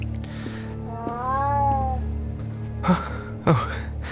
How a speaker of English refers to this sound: It's a cat. It is. A large, black, magisterial cat.